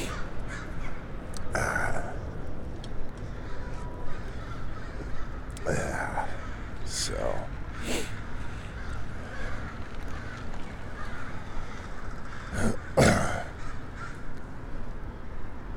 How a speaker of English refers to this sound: Got the crows. So I've decided I was calling the noise that the crows make a cacophony. But I've decided instead I'm going to call it the crowcophony, because that's exactly what it is.